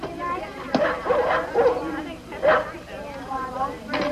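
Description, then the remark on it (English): Dogs, four of them being given away free, bark and yip in short, excited bursts, a few sharp yelps spaced irregularly, moderately loud over a busy background with murmuring voices. “This is the only place where you'll get your real live free dogs.”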